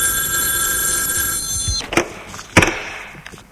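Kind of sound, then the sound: household object, telephone bell ringing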